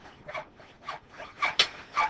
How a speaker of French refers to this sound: Cette scie qui coupe et ce coup de marteau provient de l'Institut des Marais ou l'école Karaï. Celle-ci se trouve sur le boulevard Lumumba dans la commune de Massina.